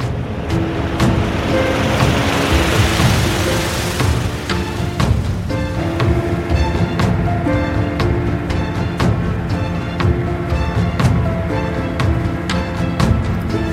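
A recreational motorboat engine drones steadily with a low, rumbling tone as the boat moves forward through the water, mixed with a rushing wash of water that is strongest in the first few seconds, then settles into a continuous loud hum.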